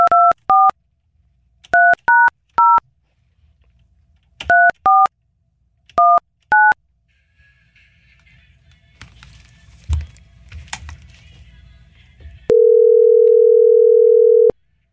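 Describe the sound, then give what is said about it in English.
A phone call is dialed: nine loud touch-tone beeps sound in quick clusters, then faint line clicks and hiss, then a single long, steady ringing tone. No one speaks. “Probably just heard my phone.”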